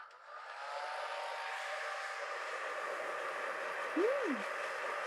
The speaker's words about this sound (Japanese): ではでは行きます。ドライヤーをしながらブラシですいていきますので、痒くなったところがあったら教えてくださいね。